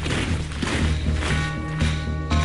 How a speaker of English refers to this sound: Every war has its trademark sound. For World War I, it was boots marching.